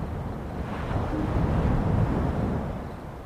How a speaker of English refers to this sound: We rowed the boat back to the dock